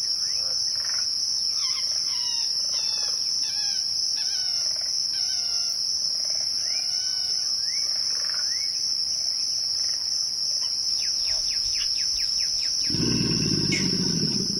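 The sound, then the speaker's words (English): A Louisiana bayou chorus recorded by Kim Wilson: a steady high insect or frog drone under repeated chirping bird calls and frog calls, then a deep, rough alligator grunting rumble rises near the end; includes the squeal of an amphibian being skewered by a heron. No one speaks. “Kim Wilson recorded this chorus of bird songs, frog calls, alligator grunts, and the squeal of an amphibian being skewered by a heron in the primordial waters of the bayou.”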